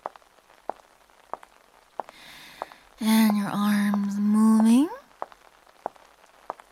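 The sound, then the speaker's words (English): Sparse, irregular raindrops tap on a hard surface, with a soft hiss of rain between them. A person's voice speaks briefly over the patter midway through. “And the rain going better, better, better, better, better, better, better.”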